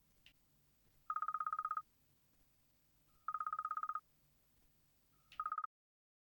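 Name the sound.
telephone ringing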